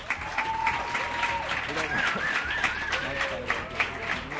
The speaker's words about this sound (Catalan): I ja està, un fort aplaudiment, si us plau.